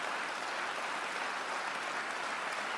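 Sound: audience applauding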